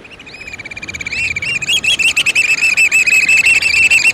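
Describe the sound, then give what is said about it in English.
Black oystercatcher calls: a fast run of loud, shrill, high piping whistles that build quickly into a rapid, steady series, over a constant rushing wash of background noise. “For another, when the monogamous black oyster catcher nests on ledges just offshore, its eggs and young suffer far less predation by mammals.”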